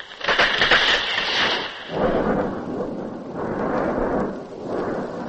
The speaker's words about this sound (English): Father in heaven is angry today. Ah, yes. All around us, lightning and thunder. Will it ever end? Mon Dieu. Listen to that.